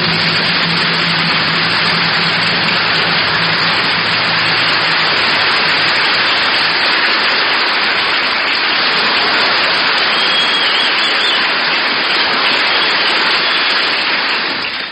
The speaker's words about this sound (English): Very good, ladies and gentlemen. We're rehearsing applause here in Vancouver, B.C., everybody. Let's take it on the downbeat again.